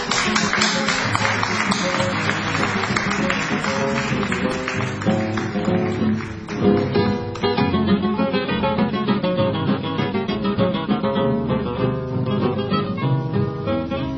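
A tango waltz opens with an instrumental introduction, a full ensemble playing continuously at steady, fairly loud volume, with no singing or talking yet.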